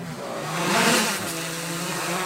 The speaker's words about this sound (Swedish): Han har just skickat upp drönaren i luften